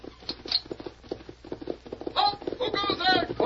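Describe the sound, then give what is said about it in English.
Horses galloping toward the listener, a rapid, steady drumming of hooves that grows louder, with a strained, tonal cry rising over the hoofbeats near the end; the horses are arriving at a military camp with tents, at night before dawn. “Lieutenant, there are your horses. They're coming at the gallop.”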